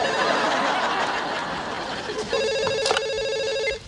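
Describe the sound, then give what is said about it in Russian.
A telephone starts ringing partway through, a steady, bright electronic trill, fairly loud, following a stretch of muffled background chatter and laughter. “Подойди, пожалуйста, мне целый день звонят и поздравляют.”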